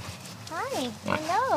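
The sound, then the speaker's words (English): Two Gloucestershire Old Spot pig vocalizations, each a rising-and-falling tonal grunt, sound one after the other over faint outdoor background noise, on more than 8 acres of land a cider maker has laid out for the pigs. “She's driving me in a golf cart over the more than 8 acres of land Virtue Cider has laid out for Gloucestershire Old Spot pigs.”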